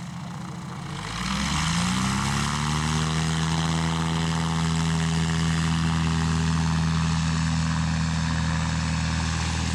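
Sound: airplane engine overhead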